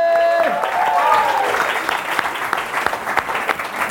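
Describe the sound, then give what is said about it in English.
At Shoreditch House, an audience breaks into steady applause for an introduced guest lasting several seconds, a dense crackle of many hands clapping, with a brief cheering voice rising over it near the start. “He's so good, he can clap himself and it's all good.”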